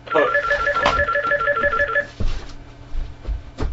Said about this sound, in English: Okay, excuse me, the phone's ringing, just ignore it.